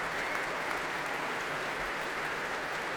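A concert audience applauds steadily after a performance of Dutilleux's cello concerto by cellist Lynn Harrell, conductor Donald Runicles and the BBC Scottish Symphony Orchestra, who rise to share the applause; a dense, continuous wash of many hands clapping at an even level with no voices standing out.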